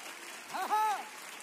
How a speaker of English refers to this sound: Oh, if you believe that today, I wish you clap your hands to the Lord. If you believe that God has something that he's about to do through you.